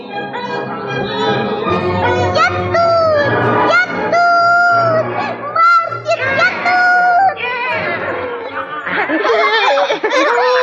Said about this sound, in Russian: Гуси, они вернулись.